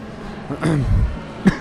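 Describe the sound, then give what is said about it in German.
A voice imitates a cough twice, with a short voiced burst followed by a sharper, briefer one. The sound is moderately loud over faint background noise. “Hust, hust.”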